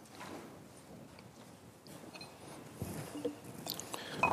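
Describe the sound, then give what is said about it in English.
Soft sipping and swallowing of water, with small mouth and cup noises that grow a little louder toward the end against a quiet background. No one speaks. “Just excuse me while I get a sip of water here.”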